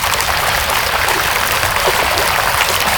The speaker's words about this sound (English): Benny continued downstream until he heard rushing water splashing over rocks.